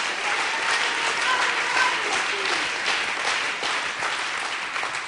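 A large group claps steadily and densely throughout, a sustained wash of applause given as a clap offering to the Lord and Jesus, with faint voices mixed in beneath.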